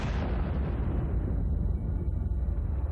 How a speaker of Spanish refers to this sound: El sonido de la explosión se puede escuchar alrededor del aeropuerto.